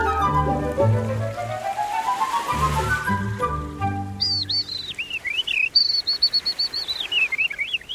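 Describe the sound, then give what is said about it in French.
A skylark's song: high, rapid warbling trills that climb and dip without pause, beginning midway through after several seconds of low, sustained harmonic tones. “L'alouette des champs, elle chante durant 13 minutes.”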